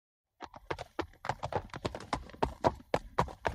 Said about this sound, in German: Wow, was für ein cooles, schönes Pferdchen. Und tatsächlich, da kam ein richtig tolles Pferd den Waldweg entlang.